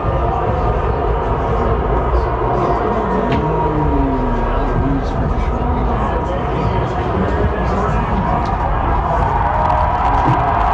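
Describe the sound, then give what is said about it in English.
A large stadium crowd of football fans roars steadily and loudly as player Chubb gets hurt, a dense mix of cheering and booing, with drawn-out wavering boos swelling within the din for the whole stretch. “There's also, you'll hear some boos because Chubb is...”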